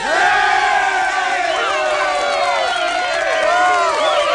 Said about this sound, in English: Therefore, at sunset tonight, I will retire as your king, and my daughter Melora will become your queen. Delighted cheering.